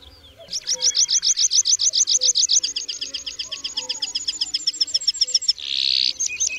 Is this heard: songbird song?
yes